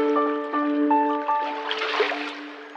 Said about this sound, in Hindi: हमें इस नाव में बैठ के नदी पार करनी होगी, तभी हम किसी ऐसी जगह पे पहुँचेंगे जिसकी दीवारें चट्टानों से बनी हो, जहाँ अंधेरा ही अंधेरा हो। जल्दी करो, टाइम निकलता जा रहा है, फटाफट ये नाव नदी के पार ले चलते हैं।